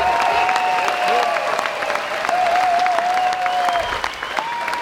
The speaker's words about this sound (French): Tout le monde était content. J'ai calculé d'ailleurs l'applaudissement. 7 minutes 20. Voilà, 7 minutes 20 où il ne se passe pas rien quand même sur scène.